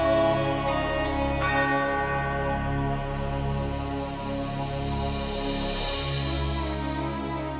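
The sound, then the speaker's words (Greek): A large clock bell rings the hour with a deep, sustained tone, its rich overtones swelling and lingering continuously with no talking, fairly loud and resonant. “Και ενώ η καμπάνα του ρολογιού ακόμη ηχούσε”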